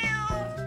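A single short cat meow, loud, with a bright tonal wail that bends in pitch over less than a second, heard alone with no talking.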